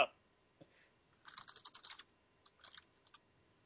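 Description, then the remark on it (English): Quick bursts of clicky typing on a computer keyboard, a rapid flurry of keystrokes followed by a shorter second burst and a few scattered taps, fairly quiet with no voices. “It's a nice keyboard you got here, nerd.”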